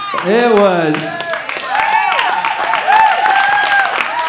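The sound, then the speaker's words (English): An audience claps steadily for several seconds, the dense patter mixed with whoops and cheering voices rising and falling over it, loud throughout. “Look, if you saw my finish time, you would not be clapping, all right?”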